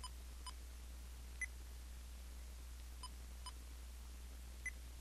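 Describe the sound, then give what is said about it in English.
Several short, faint electronic beeps sound at irregular intervals, about five in all, from a small Olympus digital voice recorder being paused, over a low steady hum with no talking. “I'm going to pause so you can hear the beeps.”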